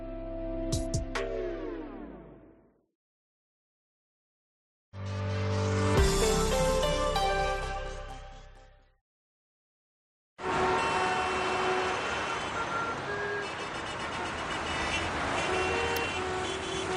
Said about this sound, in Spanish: Ya escuchas cómo está la cosa a esta hora de la tarde. Se sale de los trabajos y desde ahora hasta media tarde hay tráfico muy intenso e incluso atascos también en algunas ciudades.